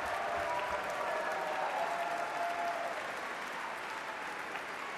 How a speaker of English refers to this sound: You heard a cheer for the principal bassoon of the Pittsburgh Symphony, Nancy Goris, who played the notes in the fiendishly high register of the instrument that began the Rite of Spring.